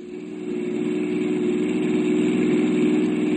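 car engine idling

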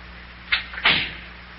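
front door being closed

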